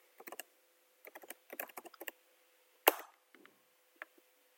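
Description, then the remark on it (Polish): Bursts of quick keyboard typing as someone enters the Windows Azure Agent deprovision command as root: clicky keystrokes in short rapid clusters, then a single louder key strike, probably Enter, followed by a few scattered taps. No one speaks. “Wykonuję komendę Windows Azure Agent deprovision.”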